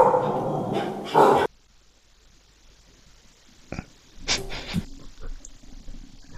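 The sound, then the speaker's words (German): A dog keeping watch in a house barks in a few sharp bursts: a loud cluster at first, then a pause and several shorter, quieter barks. No one speaks. “ja, gut, dass dein Hund aufpasst.”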